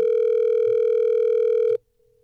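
A single steady electronic ringing tone from an outgoing phone call placed by The Miguel Show on Hot 101.5, loud and clear, holds for almost two seconds and then cuts off abruptly into near silence. No one speaks.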